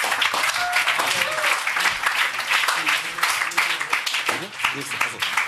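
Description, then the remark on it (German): Sustained audience applause for the furniture firm Möbel Bayhoff, a dense wash of many hands clapping at steady loudness for several seconds, with a few faint voices and cheers mixed in. “ein Applaus für Möbel Bayhoff”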